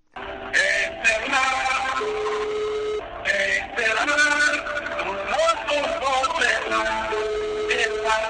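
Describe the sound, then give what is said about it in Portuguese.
A song with singing plays as the ringback tone heard when calling the mobile phone of an MPLA party militant, thin and band-limited like sound heard through a phone line, running steadily for several seconds with a brief dip partway. “É desta forma que muitos militantes ainda se apresentam quando ligas aos seus telemóveis.”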